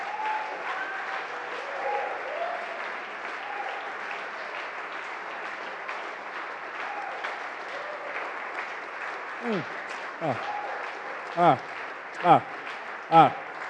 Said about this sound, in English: Please give her a round of applause. Hallelujah. Hallelujah. Please give her a round of applause, please.